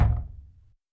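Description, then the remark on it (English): A single heavy knock on a door, a deep thud whose low boom rings out and fades within a second, with no voices. “Don't get the door!”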